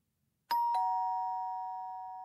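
A doorbell, rung by a father arriving to pick up his daughter, chimes two quick ding-dong notes, the second slightly lower, then its bright ringing tone lingers and slowly fades. No voices are heard.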